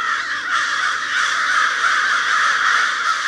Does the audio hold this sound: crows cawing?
yes